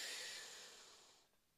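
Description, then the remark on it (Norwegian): A single deep breath drawn in through the nose, a steady airy hiss that starts strong and gradually fades over about a second, with no voices. “Pust godt inn med nesa.”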